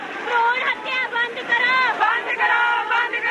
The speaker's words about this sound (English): Stop this cruel killing, shouts the crowd at a recent protest.